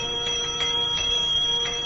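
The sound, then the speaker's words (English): A San Francisco cable car's trolley bell clangs in a quick, uneven series of strikes, its metallic ring sustaining steadily between hits, with no voices. “He's a trolley bell and a cable car.”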